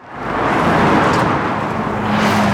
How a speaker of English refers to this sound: Traffic blows past Karina Mejia as she waits to cross Buckeye Road in South Phoenix.